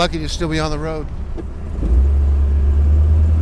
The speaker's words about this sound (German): Ted Pearson tupft behutsam aufs Gaspedal, ruckelnd setzt sich das Auto in Bewegung.